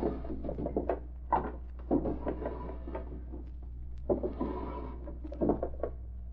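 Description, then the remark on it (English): Desk drawers in a private office are pulled open and rummaged through in two bursts, with wooden thuds, slides and small objects clattering around inside, quiet. “He wouldn't put anything in unlocked drawers.”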